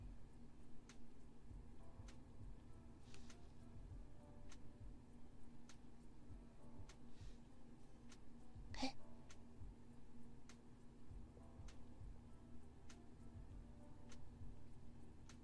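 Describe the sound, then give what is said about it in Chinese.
Faint, regular clock ticks sound about once a second over a steady low background hum, continuing evenly throughout with no one talking. “这样有时钟的声音吗？”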